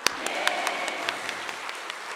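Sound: audience applauding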